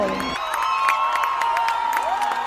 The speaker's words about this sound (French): Peu avant midi, Edmundo González Urrutia et Javier Milei apparaissent au balcon de la Casa Rosada. Les parents hissent leurs enfants sur leurs épaules, la foule exulte et entonne l'hymne national vénézuélien.